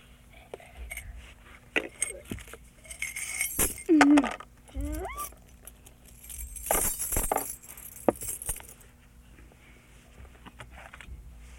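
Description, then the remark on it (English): Keys are put into a cup, clinking and jangling against it in a few bright metallic bursts, with soft rustling and quiet murmured voices in between. “Put the keys in the cup.”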